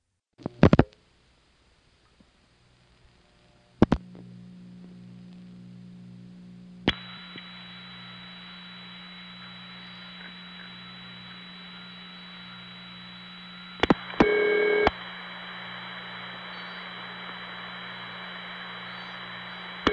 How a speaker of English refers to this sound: This is a call to the Stromberg XY in Pungo, Virginia, which is a locality near Virginia Beach, going through from my west side phone line.